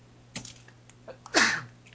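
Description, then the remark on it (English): A single loud sneeze, with the mouth covered and turned away from the microphone, bursts out after a few faint clicks and a sharp intake, its harsh hissing blast trailing off with a falling, voiced tone, with no talking. “I'm going to sneeze now.”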